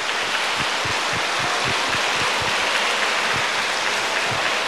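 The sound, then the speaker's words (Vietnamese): A large audience at a Buddhist ceremony applauds continuously and enthusiastically in honour of a venerable monk, a dense, steady wash of many hands clapping at once with no break for the whole stretch and no voices rising above it. “Sau những tràng pháo tay đầy nhiệt tình và cung kính ngưỡng mộ Hòa Thượng”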